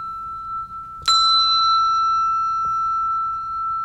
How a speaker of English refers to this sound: This one is called the E6. It's one of our treble bells.